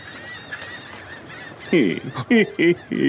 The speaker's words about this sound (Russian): Раз вокруг вьются сизые чайки. Значит, мы уже близки к берегу.